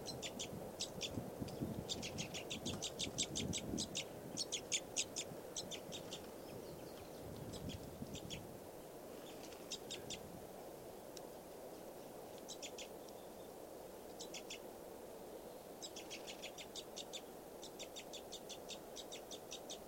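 A bunch of birds chirp in rapid, high-pitched bursts of repeated notes, recurring in clusters throughout over a steady low rumble, with no one talking, as many birds fly in and some stop.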